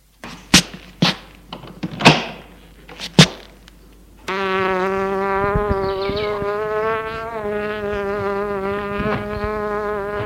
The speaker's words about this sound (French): Dans la cuisine, là, le bruit d'une mouche. Il est clair. Où est-elle? Où est-elle? Je n'aime pas les mouches. Je n'aime pas les mouches. Il essaye de la voir, tourne en rond dans la cuisine en suivant le bruit de l'insecte.